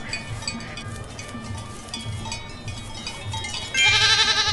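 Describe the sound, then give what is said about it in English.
A goat bleats loudly, its wavering, nasal cry rising near the end over a steady outdoor background with faint clinking. “We just need the goats. Which I hear one.”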